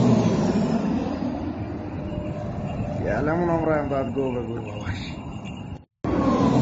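A large propeller-driven C-130 military transport plane roars past in Iran, its heavy droning rumble filling the air, with a wavering engine whine swelling midway before the sound cuts off abruptly.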